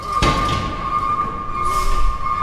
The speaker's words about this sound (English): They clatter over a steel ramp and disappear into the dark hold of a cargo ship